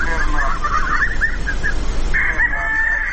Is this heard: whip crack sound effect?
no